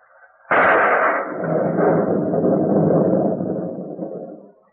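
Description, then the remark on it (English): A thunder sound effect made by a radio sound effects man: a sudden loud crack breaks into a long, deep rolling rumble that holds for several seconds before slowly fading out. No one speaks over it. “Or a roll of thunder.”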